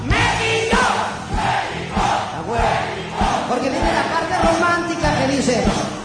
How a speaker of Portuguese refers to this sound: Ahí es donde la raza dice ¡México! ¡México!